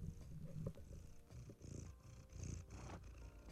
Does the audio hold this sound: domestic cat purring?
yes